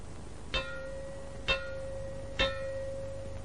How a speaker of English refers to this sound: Or you may hear three gongs like this.